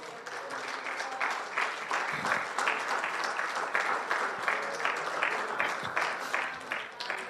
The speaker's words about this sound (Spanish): Es más, démele un aplauso.